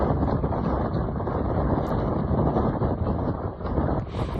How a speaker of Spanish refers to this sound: Esto que has escuchado es el torrente de agua que fluye bajo el puente del Tajo de Ronda, nutriendo el Guadalevín.